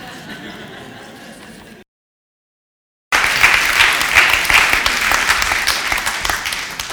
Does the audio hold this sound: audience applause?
yes